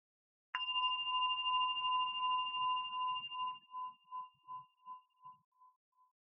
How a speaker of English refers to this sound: I'm just going to ring the bell once to start and once at the end just to center us a little.